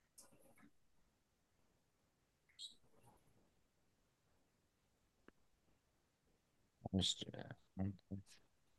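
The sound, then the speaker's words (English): A pet bird calls excitedly in scattered bursts of sharp squawks and chirps, with a louder, busier cluster near the end and quiet stretches between. “Sorry, my bird is starting to go nuts.”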